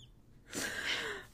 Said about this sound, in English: Oh, those are the cutest little puppy dreams. Some doggy dreams happening.